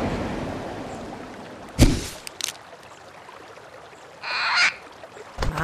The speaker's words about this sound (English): Yes, well... In fact, it's the biggest bird I can think of. Look, I... It's just... And I really hesitate to bring this up. Mm-hmm. It's just that it's a giant flightless bird.